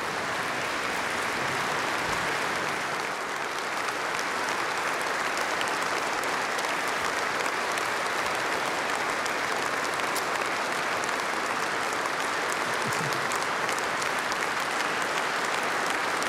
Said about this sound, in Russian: Спасибо вам большое за эти аплодисменты.